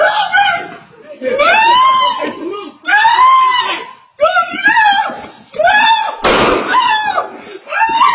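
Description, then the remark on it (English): A dog walker screams and shrieks in loud, strained bursts over several seconds as people try to grab the dogs, with short gaps between cries and a sharp thud partway through amid the commotion; audio picked up by a neighbor's surveillance camera. “So here they're trying to grab the dogs, and the dog walker's screaming.”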